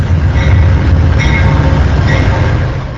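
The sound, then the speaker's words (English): A Hiawatha passenger train rumbles loudly and steadily as it rolls slowly into Milwaukee in mid-morning, deep low-end roar with faint metallic squeals and clanks, no voices. “The Hiawatha that pulled into Milwaukee in mid-morning brought some people who don't want to pay more to ride the train.”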